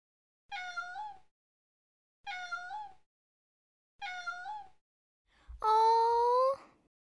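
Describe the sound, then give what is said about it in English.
Small kittens meow four times, three short, high, evenly spaced mews followed by a louder, longer, more drawn-out cry, with no talking. “Look at the kittens. They aren't big. They're small and cute.”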